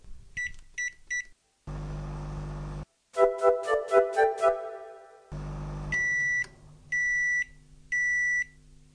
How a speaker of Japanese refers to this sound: こちらをラップをしないで500ワットの電子レンジで2分加熱します。